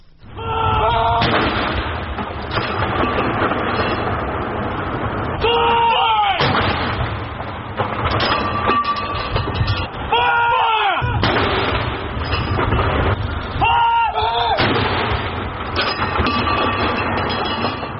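Deep military artillery salute booms fire at intervals, roughly every few seconds, at the funeral of Margaret Thatcher, over a continuous loud rumble of background noise, with each blast ringing out and fading before the next.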